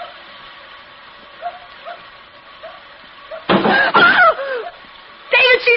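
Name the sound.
little dog barking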